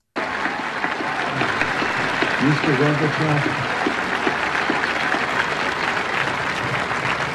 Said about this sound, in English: And those cheers go on for about 20 seconds, and then we hear this.